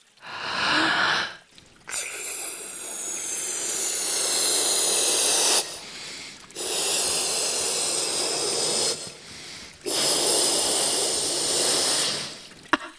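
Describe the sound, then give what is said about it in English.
Long, breathy bursts of air are blown by mouth in steady strokes into an inflatable shark toy in the water, about four in a row, each a broad hissing rush separated by brief pauses for breath. “Wait, I think I have to blow a little bit more.”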